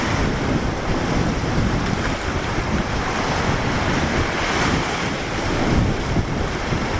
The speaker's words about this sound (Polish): Słuchajcie, stoję sobie na brzegu morza. Jest dosyć wzburzone. Czerwona flaga wisi, co prawda,